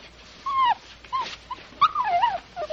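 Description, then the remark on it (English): A small stray mongrel puppy, covered in bubble bath and shaving cream, whimpers in a series of high, thin, wavering whines, some drawn out and sliding downward, others short and broken, with a quiet background. “Come on, puppy. Come on.”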